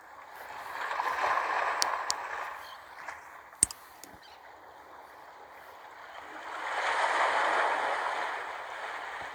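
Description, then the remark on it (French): Ocean waves wash in and out in slow, broad swells, one surge early and another later, with a quieter hiss between them and a few faint clicks. No one speaks. “Voilà, prends le temps de sentir ce rythme, ce va-et-vient des vagues qui remontent et qui repartent vers l'horizon.”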